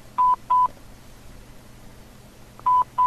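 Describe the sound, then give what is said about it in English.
A phone line ringing, heard through the receiver as a double-burst ringback tone, two short rings, a pause of about two seconds, then two more. Steady, moderately loud, over a faint low hum. “That's weird that it's just ringing.”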